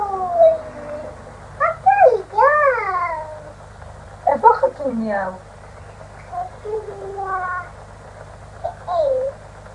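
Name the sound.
cat meowing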